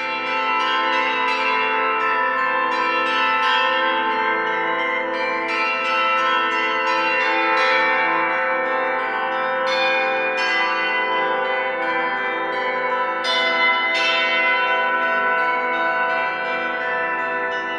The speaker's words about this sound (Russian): Ведь вот идет урок и колокольный звон, он незримо присутствует. И вроде мы уже и привыкаем к нему, и все равно он какие-то чувства вызывает.